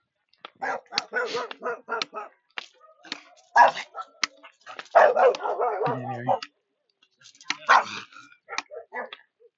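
dog barking

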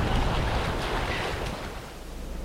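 wind and waves

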